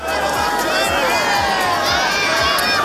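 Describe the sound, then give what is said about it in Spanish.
A large outdoor crowd of thousands of faithful in St. Peter's Square cheers and shouts continuously as the Pope rides past in the Popemobile after the Easter Urbi et Orbi blessing, a dense wash of many voices rising and falling, with scattered clapping and a few higher calls standing out from the roar. “En el momento en el que lanzaban aplausos, lanzaban gritos, lanzaban vítores”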